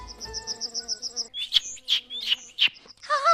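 Rapid, high-pitched chirping trills, then a string of sharp, bright chirps and a warbling call, clear with no talking.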